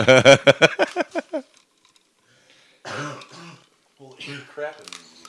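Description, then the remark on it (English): A man coughs in a quick rapid-fire burst of about eight hacks, goes quiet briefly, then clears his throat with rough, gravelly rasps. “While he's coughing.”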